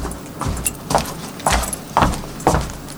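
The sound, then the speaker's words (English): Uneven footsteps thud along at a steady pace, a heavier step alternating with a lighter, scuffing one in a lopsided limping rhythm, with a faint background hiss and no talking. “If I had a limp, the sound of my footsteps would be quite distinctive.”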